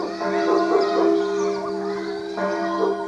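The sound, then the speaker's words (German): A dog yaps and howls in drawn-out, wavering tones, steady for a few seconds, with no one talking, in the small village of Allgolsheim, France, around midday on a hot day of over 30 degrees. “Nur ein paar Kinder spielen auf der Straße, ab und an kläfft ein Hund.”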